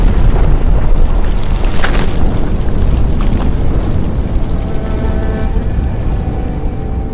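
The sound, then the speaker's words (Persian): A mine explosion set off when a match is struck: a loud, deep roaring blast with a sharp crackling burst near the start, followed by a heavy, sustained rumble that gradually eases off. No voices. “شاهین کبریت میزنه و معدن منفجر میشه.”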